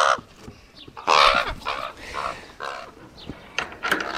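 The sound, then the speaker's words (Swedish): Ravens kept for cognition research at Lund University calling, a run of harsh, raspy croaks and squawks coming in irregular bursts over about four seconds, some loud and grating, others softer. “Då lämnar vi korparna här”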